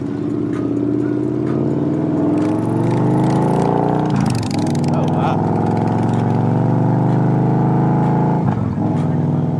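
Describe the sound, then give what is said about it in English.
The engine of an all-white, polished 2014 Victory Cross Country motorcycle drones steadily while riding with a passenger, its low rumble shifting slightly in pitch, with wind buffeting and brief bursts of noise over the top. “It's a 2014 Victory Cross Country, all white, polished, curves.”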